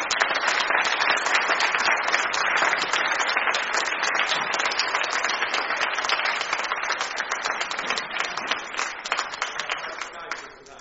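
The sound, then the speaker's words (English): A church audience applauds steadily, a dense wash of many hands clapping that holds fairly even for about ten seconds before thinning slightly at the end. “Let's give them a round of applause.”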